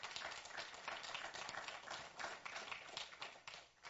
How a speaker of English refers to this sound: Why don't you affirm her by giving the Lord a hand clap?